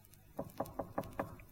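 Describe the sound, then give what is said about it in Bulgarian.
Five quick, evenly spaced knocks on a door, steady and fairly soft, ringing out alone against a quiet background. “Я да почукам на тази врата.”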